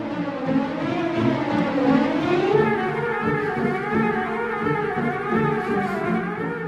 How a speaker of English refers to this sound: And The Flight of the Bumblebee ringing to a close.